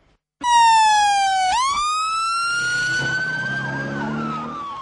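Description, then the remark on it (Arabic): Ambulances rushing to the scene of a suicide bombing in Hilla, Iraq: a loud siren wails steadily, its pitch dipping and then rising again, while a second, fainter warbling siren joins underneath toward the end. No voices are heard. “سيارات الإسعاف هرعت إلى مكان الحادث.”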